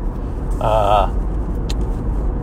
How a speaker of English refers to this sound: And you might be able to tell I'm in the car right now.